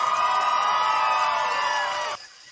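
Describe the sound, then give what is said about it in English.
A crowd cheering sound effect celebrating a "hat trick" of actor Charles Seibert's TV roles: the crowd cheers and whoops loudly and steadily for about two seconds, a dense wash of high voices, then cuts off abruptly into near silence. “We got ourselves a crowd that loves a hat trick as much as we do.”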